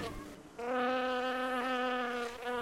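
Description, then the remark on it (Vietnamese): Flies, drawn by the sweet scent of ripe pressed bananas, buzz in a steady, sustained drone, with the whine wavering slightly in pitch as they hover; no voices are heard. “Cũng chính hương thơm và vị ngọt này đã thu hút ruồi và kiến thường kéo nhau đến thưởng thức.”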